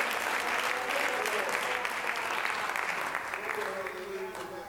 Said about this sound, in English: Let's clap our hands just for a moment to God and bless Him. God, we thank You.